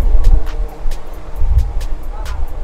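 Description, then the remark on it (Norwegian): Low, steady traffic rumble on a street, swelling twice as cars roll past, with scattered sharp clicks and faint background voices. “Unnskyld, kan du passe deg litt, så vi bare slipper bilene fram.”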